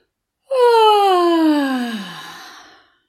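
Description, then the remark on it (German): A single voiced yawn-sigh during a singing warm-up, one continuous breathy vocal glide that starts fairly high and slides steadily downward, fading out over about two seconds. Clear, with no talking. “Gähne einmal herzhaft und seufze.”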